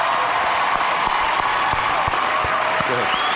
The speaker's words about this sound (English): Give this boy a round of applause.